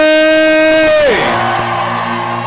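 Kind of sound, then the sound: crowd, audience shouting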